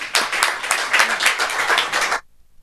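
An audience applauds with dense, steady clapping for about two seconds, many hands together in a bright crackling wash, then it stops abruptly into near silence.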